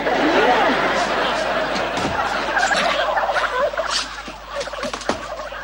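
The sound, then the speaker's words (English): Several turkeys gobble in a loud, overlapping chorus of warbling, rattling calls that runs continuously for several seconds with no pause. “it's a well-known fact that turkeys are the practical jokers of the farmyard.”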